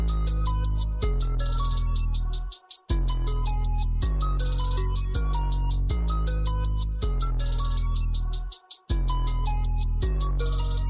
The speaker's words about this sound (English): All right, so next up is a song I also listen to at the airport a lot, and it's from a movie I really enjoyed called The Fallout.